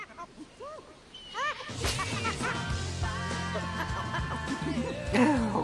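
Chimpanzee chattering: a quick run of short, rising-and-falling squeaky calls, close and fairly loud, then background music swells in while a few more excited squeals break through near the end.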